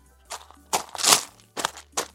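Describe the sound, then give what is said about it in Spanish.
Small pebbles at the front door of a house, early in the morning, crunch and scatter under kicking feet in five rough, gritty bursts at an uneven pace, the middle one longest and loudest, with no talking. “Miren, voy a hacer escuchar las piedritas.”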